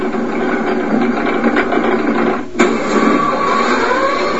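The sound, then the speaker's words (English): A steady mechanical drone of a 70-year-old electric motor pulling a 7-ton car to the top of the hill via a belt turning a 15-foot wheel that pulls the chain, with a dense humming whir, faint tonal whine, and a brief click or clunk partway through, with no voices. “For the last 70 years, this electric motor has made it all possible, pulling the 7-ton car to the top of the hill.”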